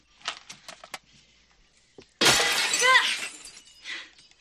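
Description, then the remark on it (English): A window is broken: a loud crash of glass shattering bursts in after a few light clinks, followed by a spray of tinkling shards settling. No one speaks. “I love those breaking noises.”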